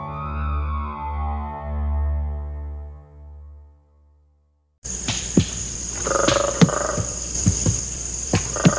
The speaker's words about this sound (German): Klopfgeräusche dringen aus einem dichten Gestrüpp dicker Bäume und dunkelgrüner Pflanzen. Es klingt, als würden hier Waldarbeiter Holzstämme bearbeiten. Aber die Geräusche stammen von Schimpansen, die im Tai-Nationalpark von Tansania Nüsse knacken.